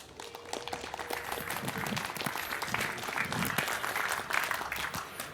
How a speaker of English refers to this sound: So I would like to hear a warm round of applause for Reticulum, Unstoppable Networks for the People,